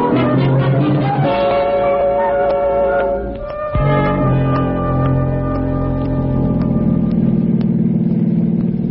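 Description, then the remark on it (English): A car engine hums steadily while driven at 90, a mid-pitched drone briefly dipping around a gear change before settling back into an even, continuous roar. “Sweet buggy, huh? 90 and she just sings.”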